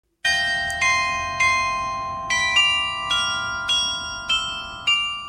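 A bright glockenspiel on the town hall of the main town square in Abensburg, Bavaria, Germany, chimes about nine clear notes in a steady, unhurried tune, each one ringing on and overlapping the next, with no voices.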